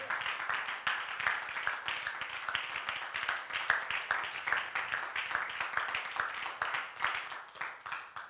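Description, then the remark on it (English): An audience gives the Lord a hand clap of praise in the morning, clapping in a dense, steady stream of overlapping claps, loud and sustained for several seconds with no talking. “Come on, let's give the Lord a hand clap of praise this morning.”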